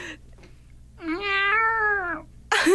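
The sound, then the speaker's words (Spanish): Cats meowing in the morning: a long, drawn-out wailing meow lasting about a second, then a sharp new meow starting abruptly at the end, with a short faint sound before them. “¿Qué les pasó a los gatos esta mañana?”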